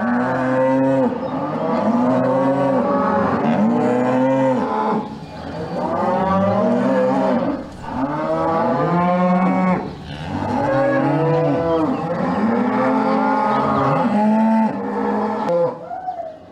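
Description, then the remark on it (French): A herd of Limousin cattle, adult cows weighing about 750 to 800 kilos, moos loudly and almost continuously. Several cows overlap in long, drawn-out lowing calls that rise and fall, with no talking. “Combien ça pèse une vache adulte? Limousine, là?”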